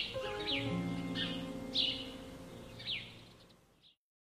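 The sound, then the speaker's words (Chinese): Sparrows gathered in twos and threes at the gate of an official's house chirp in short, scattered bursts, about five quick high chirps spaced irregularly, over a soft, steady low tonal hum; no one speaks. “不过也有好事，这些怕人的麻雀现在总是三三两两的聚在这里，要是我在这里拉一张网都可以捉雀了。”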